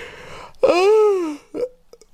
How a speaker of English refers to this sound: Yawn more on the podcast, bro. Sounds amazing.